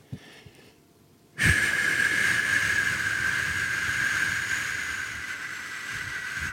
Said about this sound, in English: I'm going to give you an example of white noise.